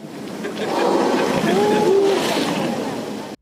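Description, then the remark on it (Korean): A young sperm whale, about 8 m long, floats beside a moored fishing boat at Daebyeon Port, Gijang County, Busan. Its rough, whooshing exhale rushes out for about three seconds over lapping water, while people let out brief exclamations. “가끔씩 몰아쉬는 거친 숨소리에 탄성이 터져나옵니다.”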